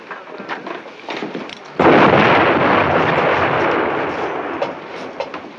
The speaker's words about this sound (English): Artillery. You've got noisy neighbors, Father.